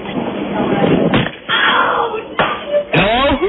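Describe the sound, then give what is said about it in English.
A phone being caught after it is thrown back between two people standing 20 paces apart: a few sharp, muffled smacks and thumps over a rushing, rustling background, followed by a brief rising vocal scream at the end. “Man, it sounds like you caught it.”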